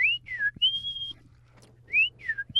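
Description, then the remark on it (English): A person whistles an imitation of the song of a bird in the sparrow family, a song likened to "drink your tea": two short sliding notes followed by a longer held tone, then the short sliding notes again. The whistle is clear, with a low hum underneath. “They have a wonderful song. It sounds like they're saying, drink your tea.”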